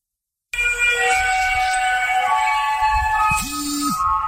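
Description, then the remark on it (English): Mysterious trumpet-like sounds heard in the sky: eerie blaring tones hold steady as a stack of droning pitches, with a brief lower horn-like rise near the end and a low rumble beneath; loud and continuous, with no talking. “Now, see, those are the trumpet sounds. Those are very indicative of what people have heard.”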